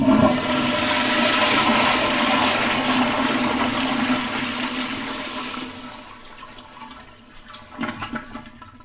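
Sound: toilet flushing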